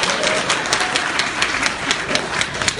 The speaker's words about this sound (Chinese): 他刚才学个这破东西，您各位刚才还鼓掌呢。就这玩意儿，谁不会呀、啊？这个，你听听掌声，你听听。